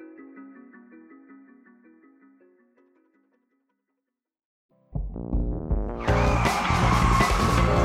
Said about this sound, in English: The car skidded to a stop.